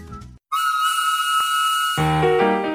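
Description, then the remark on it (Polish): A steam train whistle, on a train to Warsaw, gives one long, steady, shrill blast wrapped in loud hissing steam, lasting about a second and a half before lower, rumbling tones take over. “Witam Was w pociągu do Warszawy.”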